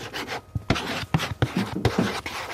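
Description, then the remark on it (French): Chalk scratches across a black plastic box, used to hold a dog's leash and food, as the dog's name, Chelsea, is written on it: a series of short, raspy strokes with brief pauses between them, moderately loud and with no voices. “Et dessus, avec une craie, on va écrire le nom du chien.”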